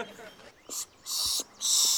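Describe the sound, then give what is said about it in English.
A birder makes three breathy, hissing pishing bursts, the first short and the last two longer, to draw birds in while calling for an American Redstart. No other sounds stand out. “It's just the odd noise birders make to make birds kind of look. It's called pishing.”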